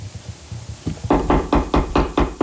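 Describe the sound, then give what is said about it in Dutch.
A series of about seven sharp, evenly spaced, loud knocks, following a few softer low thumps at the start. No one speaks. “Waar komt dat kloppen vandaan?”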